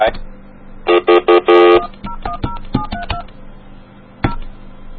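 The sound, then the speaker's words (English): A phone call being dialed on an AT&T line: a few loud touch-tone beeps in quick succession, then a scatter of shorter, quieter tones and clicks on the line as it begins to connect. “Okay, wait till it starts getting connected, and then I'll flip over.”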